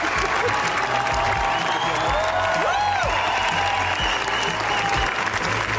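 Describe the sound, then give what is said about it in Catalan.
Sustained, dense applause from a large audience at the Cannes Film Festival, a twenty-minute ovation for Los Javis' film La Bola Negra, steady and loud throughout with no break, a few whistles rising briefly above the clapping. “Vint minuts ha durat els aplaudiments de la Bola Negra, que s'ha convertit en una de les grans candidates a la Palma d'Or.”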